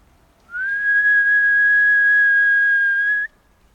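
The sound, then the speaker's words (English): A single sustained human whistle on one steady high pitch, loud, lasting nearly three seconds before cutting off cleanly against a quiet background, made at the start of a field recording to synchronize two recordings. “I will now whistle to synchronize the starting of the two recordings.”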